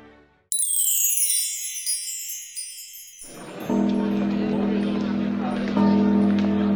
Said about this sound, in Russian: Какой звон! Перед началом представления ударяют соборный колокол.